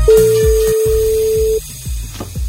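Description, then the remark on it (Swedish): A single long ringback tone sounds from an outgoing phone call to a listener entered in the Kassavalvet prize game, a steady mid-pitched beep lasting about a second and a half, with a thumping music bed continuing underneath and after it. “Det är fredag och det är dags att öppna kassavalvet och ringa upp en av er som har anmält sig till den omgång.”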